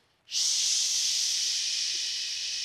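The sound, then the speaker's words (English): A voice makes a loud, steady shushing sound into a baby's ear, imitating white noise to get the baby to sleep: a continuous high-pitched hiss that starts abruptly and holds evenly for over two seconds with no speech. “Shh, white noise.”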